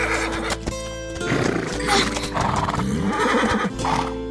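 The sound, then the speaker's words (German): A horse neighs and whinnies loudly as it pulls away in the other direction, its cries rising and falling over about four seconds, with a low rumbling and some hoof clatter underneath. “Doch das Pferd zieht in die andere Richtung.”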